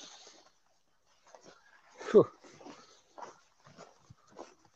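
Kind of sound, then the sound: animal, dog whimpering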